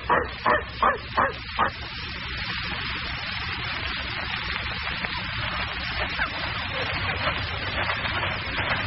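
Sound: dog barking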